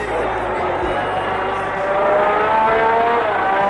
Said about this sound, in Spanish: Mira, así sonaba el monoplaza de una leyenda de la Fórmula 1.